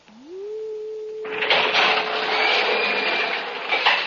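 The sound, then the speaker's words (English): A door being unlocked with a special light key that cuts the alarm from the outside, then opened: a low electronic tone rises and holds steady, then a loud, sustained hissing whoosh joins it for several seconds. No one speaks. “I have the special light key that will cut the alarm from the outside. I am opening the door to come in.”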